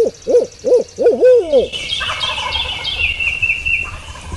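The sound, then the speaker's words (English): A turkey hunter's voice imitates an owl at dusk after hearing a turkey fly up, giving a quick, loud series of about four rhythmic hoots. A rattling gobble-like bird call and outdoor rustle follow right after. “And then he hears the wings of a turkey going up and he gives out a quick hoot.”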